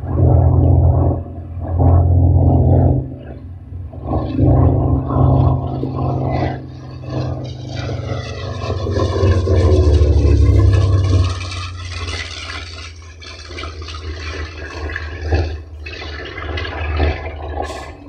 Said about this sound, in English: the bomber sounded very similar to this, although likely louder, as the sound from the 28 cylinders and 3,400 horsepower from the two radial engines echoed and reverberated off the buildings on either side of the Feather Merchant.